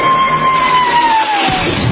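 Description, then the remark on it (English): A huge crowd of 25,000 cheering extras roars in a loud, steady wash of noise for about two seconds, while a single whistle slides slowly downward in pitch through the din. “Okay, 25,000 cheering next drive.”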